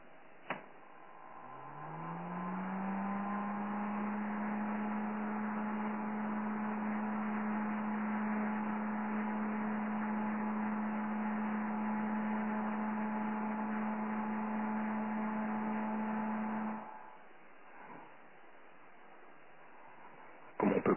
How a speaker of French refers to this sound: On entend bien le ventilateur tourner et je vais arrêter le ventilateur, vous allez écouter le bruit.